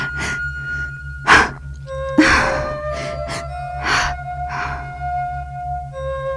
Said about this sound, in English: When you are upset or nervous, your breathing is faster and shorter, like this.